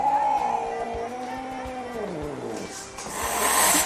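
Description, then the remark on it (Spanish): A cat lets out a long, eerie yowl that wavers and bends in pitch, loud, ending in a harsh, breathy hiss-like rasp. “Si tienes un gato que hace esto...”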